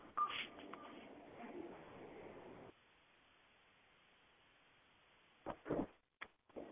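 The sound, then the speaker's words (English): Telephone keypad tones beep over a hissy phone line as keys are pressed during a conference call, a cluster of presses at the start, then a quiet gap before two or three more short, fairly loud beeps near the end. “Just a reminder, if you're on the phone, you can unmute yourself by pressing star 6.”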